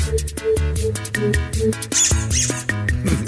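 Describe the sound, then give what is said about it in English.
A song for dogs: a bouncy, steadily pulsing tune built from squeaky-toy squeaks, the high rubbery squeals repeating in a quick rhythm over a low bass line, loud with no voices. “I thought this was the most the most favorite song for dogs.”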